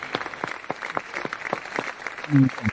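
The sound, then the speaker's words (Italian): An audience applauds after a song is sung, with a steady patter of many hands clapping at moderate volume, and a brief voice rises over the clapping near the end. “L'applauso.”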